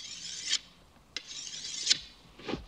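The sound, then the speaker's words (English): A sword blade is sharpened with long, hissing rasps of metal on stone, about three slow strokes with a brief sharp click between them. No one speaks. “Was that when he was sharpening the sword and thinking about when he was on the boat?”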